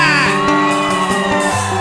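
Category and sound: crowd, audience shouting and whooping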